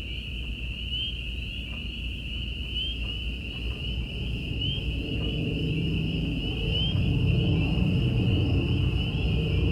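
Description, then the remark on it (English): A steady, high-pitched chorus of peepers, crickets and katydids trills without pause on a country night after sunset, over a low, constant rumble that swells slightly toward the end. “Little peepers and crickets and katydids talked to each other.”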